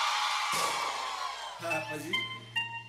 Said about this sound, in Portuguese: Agora eu só quero escutar o gritinho das solteiras.